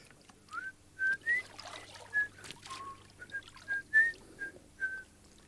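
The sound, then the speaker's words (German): A person whistles a lively tune, a string of short clear notes and brief upward slides, moderately loud over a low steady hum in the background. “Dieser herrliche Nachmittag fordert eine Frau mich zum Pfeifen heraus. Immer pfeifen Sie mit, Meister.”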